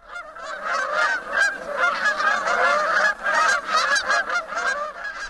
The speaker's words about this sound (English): So that's a bunch of Canada geese.